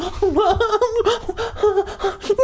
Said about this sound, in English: Terry uttered loud, sobbing gasps.